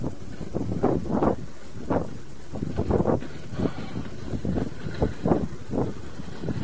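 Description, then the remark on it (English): Gusty wind buffets a microphone outdoors at night on a street behind a shopping plaza in Malden, producing repeated low rumbling bursts that swell and fade in uneven pulses, loud, with no voices; the air is not very cold. “It's not very cold, but it's windy.”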